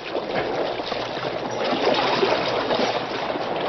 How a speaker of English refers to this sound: The mighty paddle wheels whipped the water into white foam.